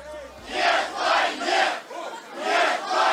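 concert crowd chanting

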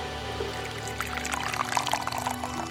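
water poured

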